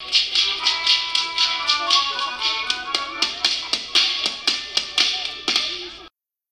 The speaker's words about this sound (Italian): Colpi di frusta a ritmo di musica. Il passato, presente e futuro del gruppo folcloristico Frustatori di Ferno.